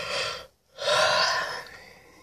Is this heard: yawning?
yes